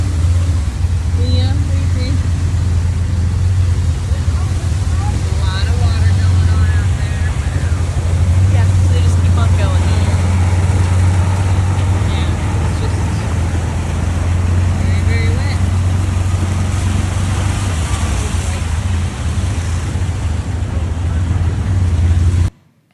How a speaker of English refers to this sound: this is just an example of riding in a tuk-tuk during the rain.